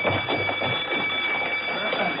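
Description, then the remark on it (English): Emergency alarm bells ring continuously throughout a training center at a steady high pitch, unbroken over a dense wash of commotion, indistinct voices and running feet as men rush to the main hall. “A few moments after that, bells rang throughout the center, followed by the sounds of running feet as the men rushed to the main hall for instructions.”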